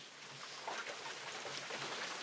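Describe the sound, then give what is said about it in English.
Steady rain falls around a hut at a garden dining hall in a soft, continuous hiss, with scattered patters of drops mixed in and no voices, at a low, even level throughout. “I'm here in the Tao Garden Dining Hall, just in a beautiful, beautiful hut, and I can see the rain around me. You guys can hear it.”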